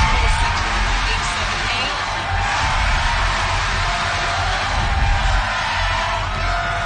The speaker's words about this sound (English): Everybody went crazy. Listen to everybody cheering. Well, not everybody was cheering.